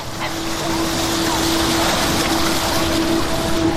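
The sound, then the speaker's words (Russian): Loud, continuous rush of surging water rising up, a steady churning wash with no breaks, accompanied by a faint low, steady hum underneath. “Мне так нравится, что вода поднимается сюда. Как будто она злится.”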